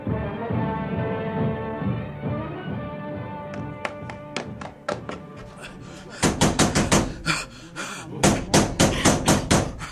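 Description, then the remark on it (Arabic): Someone knocks on Umm Hakim's door, starting with scattered raps and then breaking into loud, rapid, insistent pounding in bursts. A steady tonal drone sits underneath the early knocks. “افتحي، افتحي الباب يا أم حكيم، افتحي الباب يا امرأة.”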